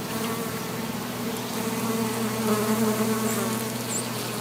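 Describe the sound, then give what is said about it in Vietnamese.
Native bees buzz steadily at the Lockford center, where flowers were planted to bring back native bees and restore pollination for local farms; a dense continuous hum from several insects that hovers at a constant level, with no voices. “Sau đó họ cùng theo dõi sự hiệu quả của công việc tại trung tâm Lockford nhằm đem lại những con ong bản địa và phục hồi lại các dịch vụ thụ phấn cho các trang trại địa phương.”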